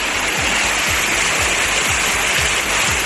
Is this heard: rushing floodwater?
yes